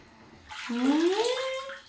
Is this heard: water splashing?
yes